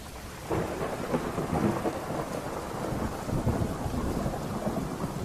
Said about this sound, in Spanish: El sonido de la lluvia golpeando los tejados de Veracruz era una sinfonía constante que me acompañaba en las noches solitarias en el Instituto Forense.